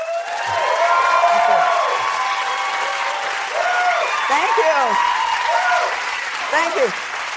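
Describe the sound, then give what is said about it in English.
An audience applauds in a dense, sustained wash of clapping lasting several seconds, with voices talking and occasional whoops rising over the steady noise before it begins to taper. “They didn't hold up applause, did they?”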